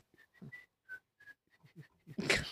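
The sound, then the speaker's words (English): Someone whistles the Steamboat Willie song, a short, bouncy cartoon tune in quick clipped notes, ending in a louder burst of breathy noise. “He's whistling the Steamboat Willie song.”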